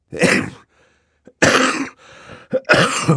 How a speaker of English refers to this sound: As Violet spoke, Mr. Poe reached into his pocket for his handkerchief, and, covering his mouth, coughed many, many times into it. He coughed so loudly that Violet could not be certain he had heard her.